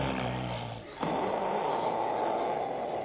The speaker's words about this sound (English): He snores on his back. He snores on his side. He snores on his tummy. I think I'll try putting his head in a bucket. Oh, heck, if he snores any louder, this caravan will think it's a jumbo jet and try to take off.